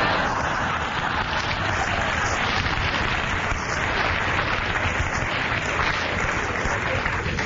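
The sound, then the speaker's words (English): Steady, dense audience applause fills the whole stretch, many hands clapping at an even, sustained level with no pauses or speech breaking through. “That's your applauding such arrant aggression.”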